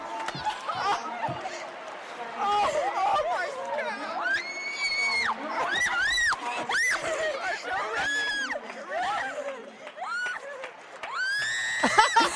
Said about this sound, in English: You know what's funny? Our producer actually has that scream on loop sometimes, and he'll just, like, play it in our ear. And while we're commentating. I mean, it is piercing.